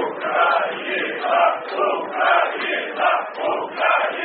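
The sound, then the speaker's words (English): A large stadium crowd of Ukrainian football fans cheers and chants for their team after the final whistle of a match against Wales, in loud, rhythmic swells rising and falling about once a second, with no single voice standing out. “Then they cheer.”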